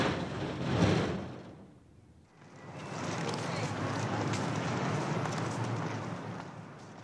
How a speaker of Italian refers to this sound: È sera. Siamo davanti alla tabaccheria The Brooklyn Cigar Company. Oggy esce, chiude la porta a chiave e comincia a tirar giù la serranda della vetrina.